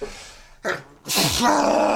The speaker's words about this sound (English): I'm about to sneeze here. Hold on.